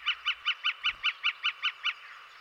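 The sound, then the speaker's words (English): A northern flicker, a woodpecker with a red patch on its neck, calls a rapid, even series of about ten loud wick notes, steady in rhythm, with no other sounds around it. “The northern flicker, that's what it is. It's a member of the woodpecker family.”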